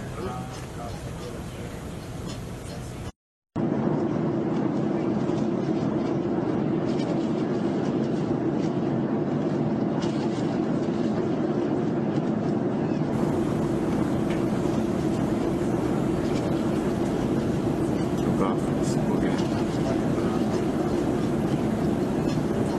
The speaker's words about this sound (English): on possibility two, the audio sounds extremely similar to the 2019 U.S. Navy filmed spherical-shaped UFO object going into water, posted by Jeremy Corbell, featuring ambient sounds from the USS Nimitz.